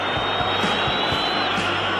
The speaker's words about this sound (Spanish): Había pitos para el Real Madrid, pitos hasta que Asensio abrió el marcador.